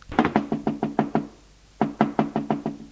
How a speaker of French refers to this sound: Elle frappe à la porte.